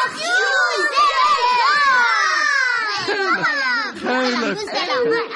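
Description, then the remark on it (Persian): A group of children shouting and chattering over one another before being told the story of Zabal Khan, a loud, continuous jumble of high excited voices rising and falling for several seconds. “خیلی خوب بچه ها، به جای سر و صدا کردن ساکت باشین تا قصه زبل خان براتون تعریف کنم.”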